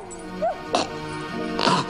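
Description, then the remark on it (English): A beagle puppy in a scene from the film Cats and Dogs lets out a few short, high-pitched yaps, spaced unevenly over about two seconds, with a steady background hum underneath and no talking. “It's a bit of a scene between a beagle puppy and a little Russian blue.”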